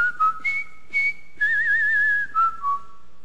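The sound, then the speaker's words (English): Someone whistles a brisk military march melody, clear piercing notes stepping up and down with a long wavering held tone in the middle, no voices or other sounds around it. “by the end of that show, I could whistle Colonel Bogey's March”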